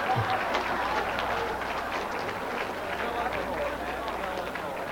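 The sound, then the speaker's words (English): Dense, steady clapping fills the whole stretch, hands brought together from about 8 to 12 inches apart in quick slapping motions, many quick slaps blurring into a continuous applause-like patter at an even loudness throughout. “The hands are brought back to a position about 8 to 12 inches apart, then brought together in a quick slapping motion.”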